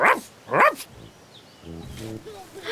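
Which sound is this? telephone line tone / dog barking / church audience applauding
dog barking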